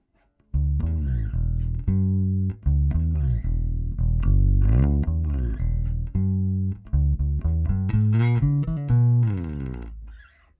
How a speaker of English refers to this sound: What's nice about it is that since it's piezo, I can actually move the model pickup so that the only the neck coil is soloed the way I actually like it on my bass. But I still don't get any 60-cycle hum because they're not actually magnetic.